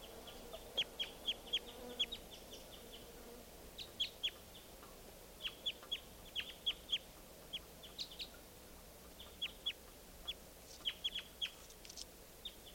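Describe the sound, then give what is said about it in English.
A wild bird calls with soft, high-pitched chirps that come in quick clusters of several notes, repeating with short pauses throughout over a faint low background hum. “Wild bird very weak.”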